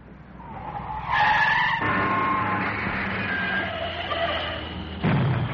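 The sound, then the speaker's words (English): Car tires skid with a loud, sustained squeal lasting several seconds, followed by a second sharp burst of screeching at the end. Intense, with no talking. “Oh, that's the second car.”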